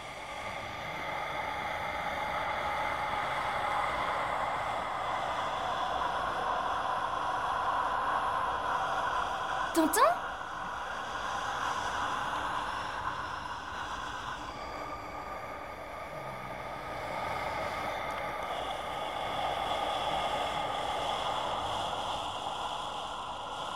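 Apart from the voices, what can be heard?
calm steady wind blowing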